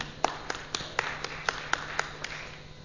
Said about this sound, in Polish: Dziękuję bardzo również za te oklaski.